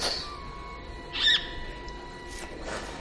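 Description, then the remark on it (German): A small bird gives a short, high-pitched call near the middle, with a couple of fainter calls around it over a quiet, faintly hissing background. “Was bist du denn? Ein kleiner Vogel oder was bist du?”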